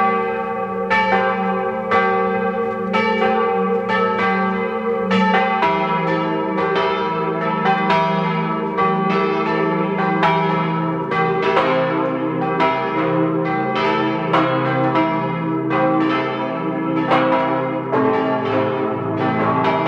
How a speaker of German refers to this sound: Es ist 12 Uhr. Sie hören die Glocken der Pfarrkirche zu den heiligen Aposteln Petrus und Paulus in Söll in Tirol.